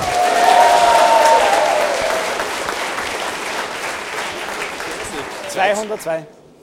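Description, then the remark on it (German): Audience applause for a quiz score of 202 points rings out loudly at first, a dense wash of clapping that gradually thins, with a whistle-like tone early on and a brief voice near the end before it cuts off. “Ja, das verdient einen Applaus.”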